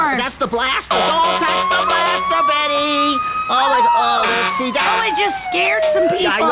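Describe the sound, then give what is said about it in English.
A vehicle siren wails with a long tone that slowly rises and then glides back down, loud and steady, while people talk over it. “Shut up the siren off.”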